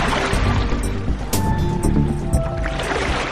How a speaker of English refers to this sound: But first I'd like to conjure up a distant, spooky howl while the moon is high, and some mysterious splashing sound from the beach. They're not quite waves, are they?